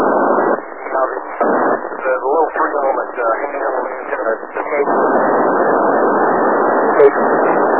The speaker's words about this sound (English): Yeah, a little bit of QRM underneath you there, so it's blocking your signal a little bit.